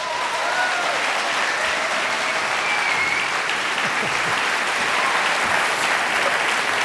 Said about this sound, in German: Jetzt aber großen Applaus für Christian Ehring.